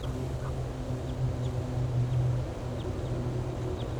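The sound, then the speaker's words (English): A wild bird gives faint, brief high flight calls at irregular intervals over a steady low rumbling hum. “Giving flight calls.”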